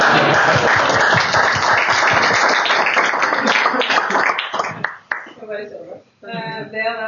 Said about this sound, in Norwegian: Mr. Barack Obama! Det fortjener en applaus.